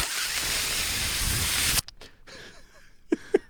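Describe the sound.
A voice imitates a Dyson full-body air dryer with a loud, steady, breathy hiss lasting nearly two seconds, then cuts off abruptly, leaving a few faint clicks and short blips.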